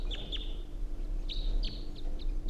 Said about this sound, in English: I think there are two birds. Stop. No. Continue. Point it in the direction of the birds.